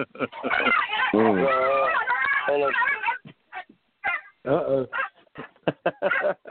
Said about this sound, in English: Sorry about that. I had my two female dogs get to fighting.